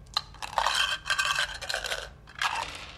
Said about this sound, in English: grabs the cup of dice.